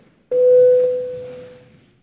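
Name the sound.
parliamentary voting bell tone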